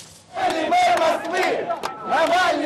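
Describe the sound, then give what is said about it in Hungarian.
A large crowd at a railway station in Moscow cheers and chants loudly in unison, greeting opposition activist Alexei Navalny as he returns by train from Kirov. The sound swells after a brief quiet start, dips for a moment, then surges again. “Tömeg várta a Kirovból Moszkvába visszatérő Alexej Navalnyit, akit sokan már az orosz főváros leendő főpolgármestereként köszöntöttek a vasútállomáson.”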